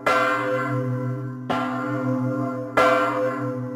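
A large church bell tolls three times at a slow, steady pace as its clapper strikes it, each strike bright and clanging with a long humming resonance that carries into the next. No voices are heard.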